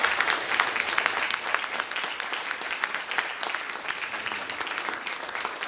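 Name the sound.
audience applauding in church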